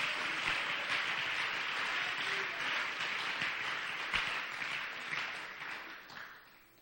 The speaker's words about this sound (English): Would you just clap your hands for a couple of moments?